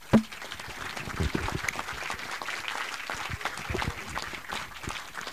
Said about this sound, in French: Donc Fred Touche, Arnaud Aymar et Laurent Petit du Cabaret Philosophique. Vous pouvez les applaudir.